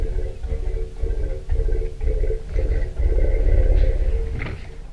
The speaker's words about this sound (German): Einer meiner Lieblingsrufe ist das Grollen der männlichen Elefanten während der Brunst, wenn sie aggressiv und sexuell erregt sind. Und da geht es darum zu sagen, ich bin bereit zur Paarung